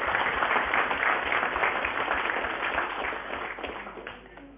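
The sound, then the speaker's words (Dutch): Steady, dense applause from an audience at a municipal council meeting, many hands clapping at once in a continuous wash that holds for several seconds and then gradually thins and fades toward the end. “Ja, het applaus was prima op zijn plaats.”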